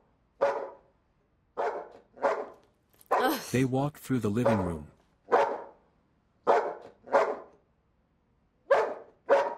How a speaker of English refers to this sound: Cut and we see a dog barking.